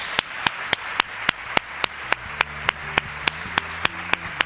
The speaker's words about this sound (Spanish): Un aplauso, ¿no?, a don Jesús,